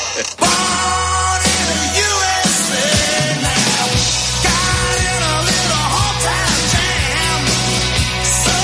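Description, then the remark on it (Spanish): A loud, dense rock track with heavy distorted guitars and steady bass, while voices shout the chorus together over the full band. “Te dan ganas de gritar con esta canción, es imposible, sí, ¿no?”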